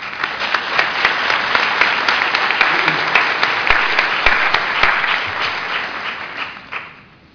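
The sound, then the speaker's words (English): Sustained audience applause for NIS award recipients at an awards presentation, with dense, overlapping claps at a steady loudness, some sharper individual claps standing out, before fading away near the end. No one speaks. “Okay, well, let's have a round of applause for all of the NIS award recipients.”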